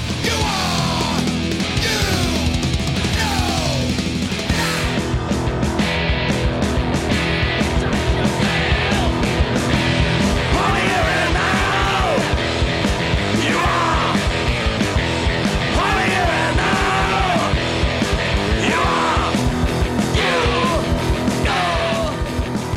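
group of people screaming

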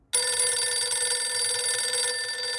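telephone ringing

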